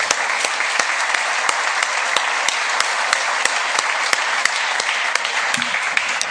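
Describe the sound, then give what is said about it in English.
A crowd in a legislative chamber applauds a girls' team that won a Class A championship, steadily for several seconds, a dense wash of many hands clapping at an even loudness with sharper individual claps popping out of the mix. “So I just wanted you to give all my girls a round of applause.”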